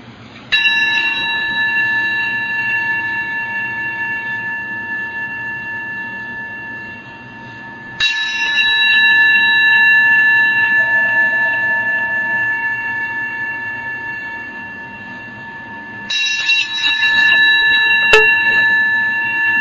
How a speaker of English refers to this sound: So let's spend a moment and just listen to the sound of the bell.